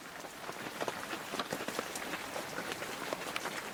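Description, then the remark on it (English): Steady monsoon rain falling in July in southeastern Arizona, pattering on a surface, a dense crackling hiss of countless drops with no pauses, even in loudness throughout. “All this great rain starts falling.”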